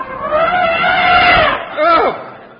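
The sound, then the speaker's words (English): A voice imitates an elephant trumpeting, sounded by a 'bugler' on command as a mock bugle call: a long, loud, wavering blare, followed by a shorter call that rises and then falls. “Bugler, sound the elephant.”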